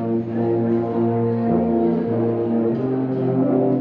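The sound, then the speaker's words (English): An ensemble of ten tuba and euphonium teachers and students holds deep, rich sustained chords with an organ-like blend, shifting harmony a few times at a steady, full volume, with no voices. “To have an ensemble with just tubas and just euphoniums, it's great.”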